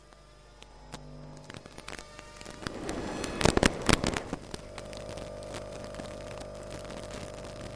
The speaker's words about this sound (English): Right now, we're recording on the underground, and we just recorded the sound of a train. It was a very high frequency, which then dropped down and sort of descends into a crackle as the train gets nearer.